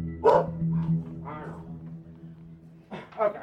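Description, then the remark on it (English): A caged bulldog barks in a few rough, throaty bursts, a loud one at the start and a couple of fainter ones after, then a lull before two more barks at the end. “So I opted to just stand there and listen to his caged bulldog bark at me.”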